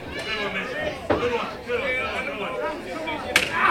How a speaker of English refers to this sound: Jeez, this is some hard slapping. Pretty good just to listen on the mic, isn't that crazy? The men are just going in a circle now, slapping each other, chopping.